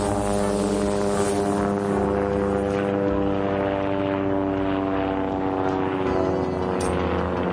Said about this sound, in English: helicopter. Watch out. Get down